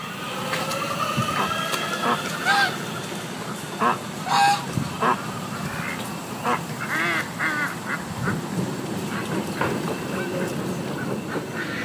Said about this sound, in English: That's a sample of the sounds of people and birds at the Virginia Tech Duck Pond in Blacksburg on a typical September afternoon.